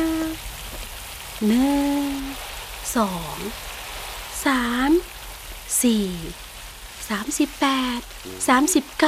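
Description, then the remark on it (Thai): Heavy rain pours down in a steady, dense hiss throughout, while wailing, voice-like cries rise and fall over it in repeated bursts. “ใช่แล้วพระเจ้าให้ฝนตกอย่างหนักแค่นั้นยังไม่พอพระเจ้ายังให้มีน้ำพุ่งขึ้นมาจากใต้ดินด้วยฝนตกอยู่นานกี่วันนะ”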